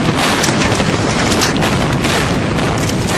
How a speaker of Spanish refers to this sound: Recuerdo el sonido de la explosión.